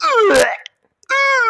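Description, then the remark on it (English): A person's voice imitates vomiting: a loud, gurgling retch that falls in pitch with a harsh burst in the middle, a brief pause, then a sustained, strained groaning heave. “Tell me, what is the sound of vomiting?”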